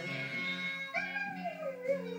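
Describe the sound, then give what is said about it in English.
A borzoi on the television howls in long, wavering tones that slide up and then slowly fall, with a fresh rise near the end. It is fairly soft and steady, and no one speaks. “That's the borzoi on the telly.”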